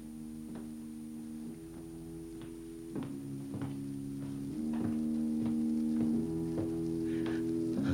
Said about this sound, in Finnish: Voin hyvin kuvitella miesraukan sulkeutuneena laboratorionsa ja hermostuneen askelin kulkevan lattian poikki. Jatkuvasti, jatkuvasti.